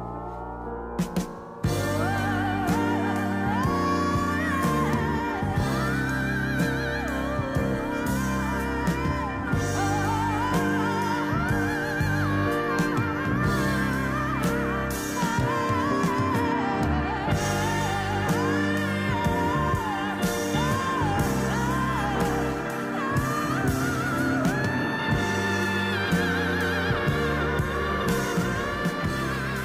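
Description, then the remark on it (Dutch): A woman's wordless vocal wails and soars in long, sustained cries over a full rock band with piano and drums, loud and continuous throughout. “Mocht je nou denken, hé, wat een gek geschreeuw, joh.”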